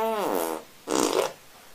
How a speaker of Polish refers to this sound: nie ma nic piękniejszego jak pierdnięcie bez zesrania.